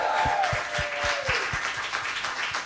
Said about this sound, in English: And all of that, of course, is sponsored by the great people at Mr. Mosquito Control. Can I have a round of applause for those people?